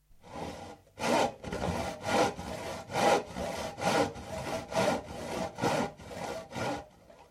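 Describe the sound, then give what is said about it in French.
A carpenter in a workshop saws through a wooden plank with a squeaking hand saw, about a dozen steady back-and-forth strokes with a harsh, grating rasp, ending in a fainter final pass. No voices. “Il saisit une planche et la scia avec la scie qui grinçait.”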